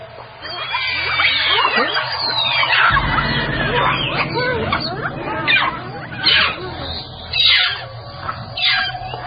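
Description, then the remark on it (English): Several monkeys in China give high, squeaky alarm calls warning each other of a spotted venomous snake, a Chinese moccasin viper: a dense overlapping chorus of chattering chirps that continues throughout, with sharper, louder bursts toward the end over a low background rumble. “They use this specific alarm call to warn each other whenever a snake is spotted.”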